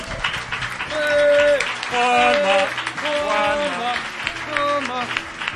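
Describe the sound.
An audience on a TV programme applauds a musician in a steady, dense wash of clapping that swells and holds for several seconds, mixed with a man's voice and sustained musical tones.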